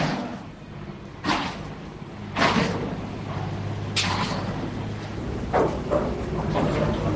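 Construction noise from a large construction project near the A5 in Madrid, with pneumatic hammers, drills and construction trucks: a steady rumble of heavy machinery with a low droning hum, broken by several irregular clanks and bangs every second or two. No one speaks.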